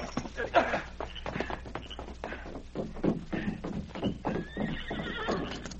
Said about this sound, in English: Meanwhile, Rengo and Spud were galloping toward Dawson. Darkness had fallen when they finally reined up their horses in front of Jeff Piggott's office.